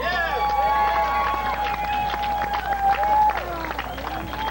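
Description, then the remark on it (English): A crowd at an anti-nuclear gathering applauds steadily as an activist speaker is introduced, with dense, continuous clapping that holds fairly loud throughout, mixed with cheers and a sustained whistle-like tone above the noise. “Round of applause for”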